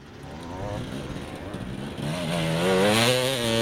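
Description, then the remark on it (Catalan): Enduro motorcycle engines rev loudly at the Catalonia enduro championship in l'Espluga, their pitch climbing and wavering as throttles open, building to a louder, higher-pitched roar in the final seconds. “El so dels motors va ser el protagonista del passat cap de setmana a l'Espluga, on 170 pilots van donar el tret de sortida al Campionat de Catalunya d'enduro.”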